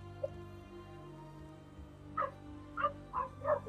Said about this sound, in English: Sorry, the dogs.